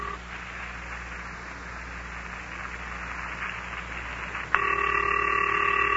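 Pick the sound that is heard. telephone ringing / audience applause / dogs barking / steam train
telephone ringing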